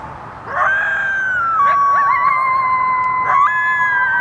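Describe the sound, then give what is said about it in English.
Several coyotes howl together in a sustained, overlapping chorus, their long wavering tones gliding up and down, broken by a few short yips, fairly loud. “They yip and bark at each other. And just like your dog, sing along to sirens.”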